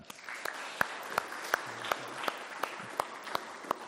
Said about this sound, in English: So we officially welcome them into membership. In fact, give them a clap for...